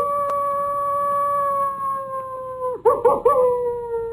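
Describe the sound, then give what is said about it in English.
A long, steady coyote howl slowly sinks in pitch, then breaks into a short flurry of warbling yips near the end. Clear, with no voices. “Jason, take us out with a little bit of coyote sound, won't you?”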